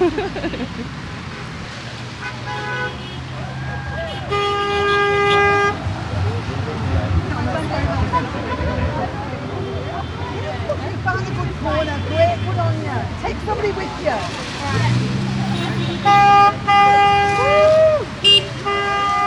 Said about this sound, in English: My sign says honk your horn for support for the nurses. So there's a lot of honking going on right now. So there is a lot of support out there from the public.